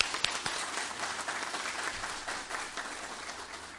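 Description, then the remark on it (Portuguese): Steady applause from an audience at a municipal council session after the councillors are declared sworn in, a dense wash of many hands clapping at a fairly even level with no voices standing out. “Peço a todos uma salva de palmas.”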